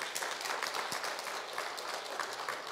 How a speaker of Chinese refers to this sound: 我们可不可以拍手荣耀归给神呢？